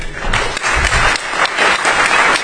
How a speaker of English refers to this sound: If you're not clapping, I'm a little disappointed. And if you are clapping